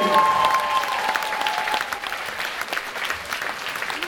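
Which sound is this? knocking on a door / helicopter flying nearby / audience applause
audience applause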